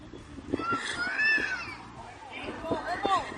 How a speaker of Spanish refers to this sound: como la que se grabó en la entrada del centro comercial Luz del Tajo en Toledo, donde varios coches quedaron atrapados en la carretera con unos niños llorando en su interior. Está el niño acojonado.